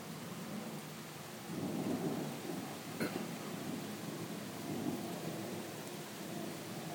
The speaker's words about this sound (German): Na, zwischendurch war es jetzt mal eben weniger mit Regen. Also eigentlich fast weg. Wird schon wieder leicht mehr.